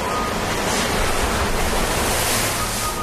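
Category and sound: nature, ocean waves crashing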